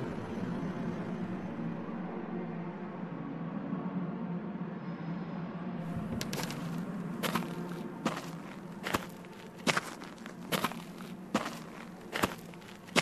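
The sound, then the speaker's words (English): Footsteps crunch steadily across hard compacted earth on the Foley stage of Pinewood and Shepperton Studios in London, each step a sharp, fairly loud scuff in an even walking rhythm over a low, constant rumble. No one speaks. “This is hard compacted earth.”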